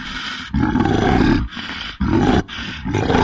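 A bear roars loudly in several heavy, rumbling bursts separated by brief gasping pauses, with no voices.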